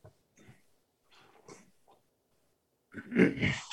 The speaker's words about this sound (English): Sorry. Cut that clearing my throat out. No, I'm going to leave it in for that awkward moment. Yeah, that's the old person in me. Can't help it. So the old person that clears his throat and also forgets to mute.